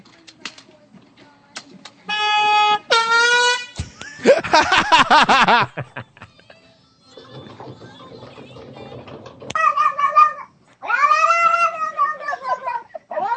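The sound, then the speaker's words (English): A cat yowls and caterwauls loudly in several drawn-out, wavering cries, with scattered clicks and rustling between them and no talking. “No, no, cat.”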